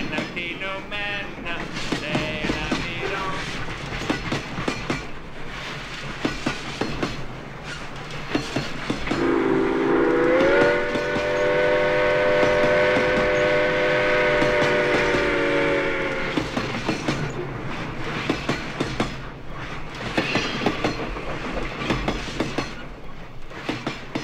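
A train rolls past with a steady, rhythmic clickety-clack of wheels on rails, and a long, loud horn blast sounds midway for several seconds before the clattering carries on.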